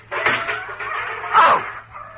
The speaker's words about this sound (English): Oh, that infernal dog is back. Get! Get out of here! Get! I'll throw this can at you. Get!